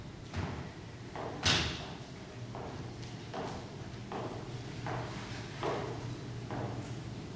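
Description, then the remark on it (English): A nun shuts a door with a single solid thud, followed by her slow, evenly spaced footsteps moving away along a corridor at a steady walking pace over a low background hum. “closes the door and walks slowly back along the corridor.”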